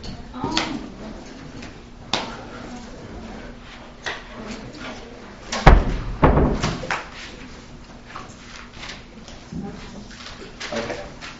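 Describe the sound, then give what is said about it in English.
A door swings shut with a single solid thud partway through, with faint background murmuring and a few small knocks and shuffles. “Yeah, let's shut that door.”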